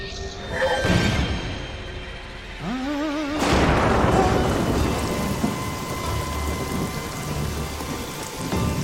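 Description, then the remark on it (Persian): Steady rain pours down with a broad hiss, punctuated by a couple of deep thunder rumbles and a sharp crack early on, then settles into continuous heavy rainfall. “عجیبه، من همیشه هر وقت میخواد بارون بیاد قبلش متوجه میشم، ولی این دفعه متوجه نشدم.”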